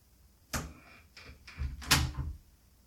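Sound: door closing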